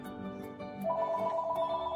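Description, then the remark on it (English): A telephone rings with a bright electronic trill, its tone steady and then jumping to a louder, higher sustained pitch partway through. No one speaks over it. “I got to answer that phone.”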